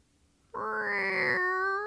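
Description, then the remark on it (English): A person imitates a cat's meow as a sound effect on the Foley Arts show: one long, loud mew that starts after a brief silence, rises in pitch and holds steady, with no other talking. “Do one more. Do a cat sound.”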